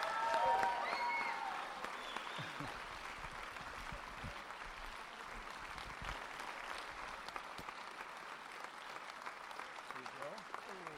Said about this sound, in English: Stay on your feet and keep those hands clapping for your new lead pastors,